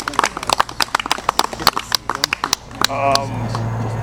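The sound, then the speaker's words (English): An audience claps in a quick, irregular round of applause for two speakers who shared their message, lasting nearly three seconds, the sharp claps fading out as a voice begins speaking. “Can we give them both another round of applause for sharing their message?”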